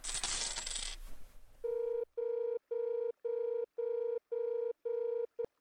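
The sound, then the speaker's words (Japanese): A short burst of 10-yen coins clattering into a payphone, then a steady electronic ringing tone pulses at a regular pace, seven clear rings with brief gaps between them. “10円持ってたっけ。”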